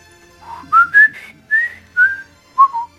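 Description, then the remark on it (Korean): Teacher John Keating, entering a class at Welton Academy, whistles a melody, a clear series of pitched notes rising and falling in phrases, fairly loud, with short pauses between notes and no talking. “휘파람을 불며 등장한 선생님이 밖으로 나가버립니다.”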